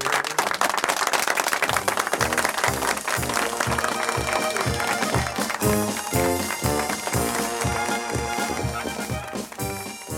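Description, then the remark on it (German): An audience bursts into sustained applause for the Ober-Unter-Zillertaler Schuhplattler stage act, a dense wash of clapping holding steady and loud throughout, with a rhythmic stamping or clattering beat running underneath. “Applaus!”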